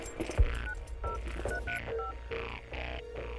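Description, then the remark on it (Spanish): A rapid series of electronic keypad beeps from a mobile phone being dialed, about eight short tones in quick succession, clear with a faint low hum underneath. “Toma tu celular y”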